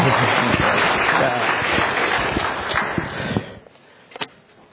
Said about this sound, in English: He said he didn't want any applause, so if you don't want to clap for him, that's fine. But I'm going to invite you to clap for him and welcome him up to the stage.